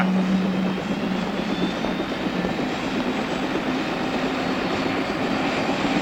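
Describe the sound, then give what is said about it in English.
A helicopter engine runs with a steady, loud drone, a broad roaring hiss and a low hum, with no voices. “Just a reminder, always walk around the nose of the helicopter and never uphill away from it.”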